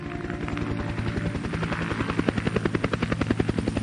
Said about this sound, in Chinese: 半个小时以后，杜超和洛敏乘坐的直升飞机降落在废旧工厂一里外的空地上